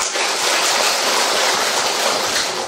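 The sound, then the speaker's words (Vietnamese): A steady round of audience applause, dense and crackling, with many hands clapping at once at an even loudness for about three seconds and no voices heard over it. “À, đúng rồi, vui vẻ chào hỏi, cho anh tràng pháo tay.”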